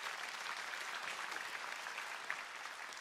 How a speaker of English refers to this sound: Come on, let's give God a good clap offering.